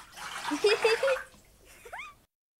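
Children splash lively in bath water, fairly loud for about a second with small vocal squeals mixed in, then softer sloshing and a few quick rising squeaky chirps before it stops.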